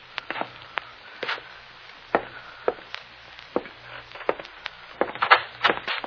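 Footsteps slowly climb the wooden stairs of an old apartment building up to the fifth floor, a series of irregular knocking treads with sharp creaks and groans from the boards in between, moderately loud, with no voices.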